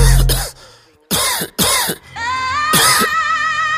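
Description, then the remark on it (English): Several harsh coughs in quick bursts, a couple grouped together, then a pause and one more cough over a steady tonal musical backdrop. “But my flow cold, so I'm coughing.”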